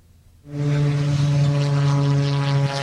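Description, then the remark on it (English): The small propeller engine of an Albatross 2 military drone, operated by soldiers at a military shooting range in Taimali Township, Taidong, starts up after a brief quiet moment and holds a loud, steady buzzing drone with a strong tonal hum. “Soldiers in camouflage operate what appears to be an Albatross 2 drone, which was unveiled last year.”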